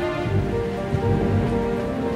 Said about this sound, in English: Another sad night, as he sat there thinking, a big storm began. Lightning was striking and the sound of the thunder was echoing in the castle.